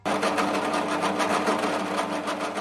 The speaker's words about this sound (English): Davis drills in his workshop.